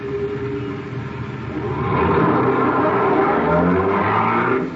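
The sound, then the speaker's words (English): A car engine rumbles steadily, then grows louder and rises in pitch as the vehicle pulls away and accelerates, a continuous drone with no voices. “Now, we'll take it easy, obey all traffic laws, and head for the country.”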